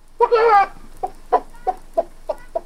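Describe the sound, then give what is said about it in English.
A man's voice imitates a chicken: one loud, drawn-out squawk, then a string of six short, evenly spaced clucks, clear with no other sounds around. “The dumb stableman role was the robber with a fox-like grin's father, who had an excellent chicken imitation, because it turned out that he was the one laying the golden egg.”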